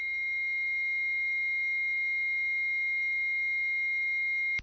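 A steady, eerie electronic tone with several stacked pitches, reported as heard by people before an earthquake, hums continuously at even volume, then cuts off abruptly with a brief burst at the end. No voices.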